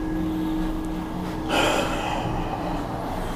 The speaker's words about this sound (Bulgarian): Просто дълбоко дишане.